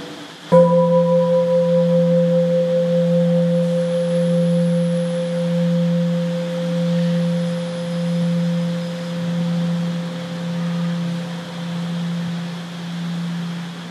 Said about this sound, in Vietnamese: Tất cả sóng âm thanh đều cùng một nguyên tắc, khi mình nghe cái tiếng chuông thì mình thấy nó rõ hơn và nó lớn.